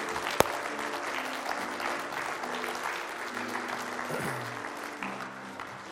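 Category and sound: crowd, audience clapping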